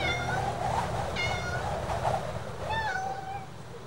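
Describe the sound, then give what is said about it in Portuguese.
A cat on a prairie meows three times in drawn-out, wavering calls over a steady low rumbling background noise. “Um gato na pradaria.”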